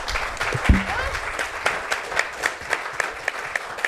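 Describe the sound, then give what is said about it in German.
An audience applauding, a steady wash of many hands clapping with scattered sharper claps standing out, moderately loud and continuous throughout. “Danke, dass ein Applaus”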